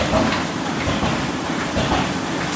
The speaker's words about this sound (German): Eine Etage unter den Gestaltern und Lektoren rattern die Druckmaschinen.